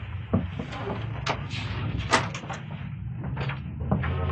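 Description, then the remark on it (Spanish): A woman shuts a door, a series of wooden knocks, clicks and a firmer thud over a steady low hum, with no voices. “Miklos se retira después de que la rubia y hermosa científica ha cerrado la puerta.”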